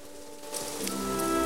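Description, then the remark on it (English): Steady rain patters down in a soft, continuous hiss that swells slightly louder, with a faint sustained musical tone humming underneath, as Gromit, in a bright yellow waterproof coat, trudges through it with his bundle of belongings over his shoulder. “Now wearing a bright yellow waterproof coat, Gromit trudges through the rain with his bundle of belongings over his shoulder.”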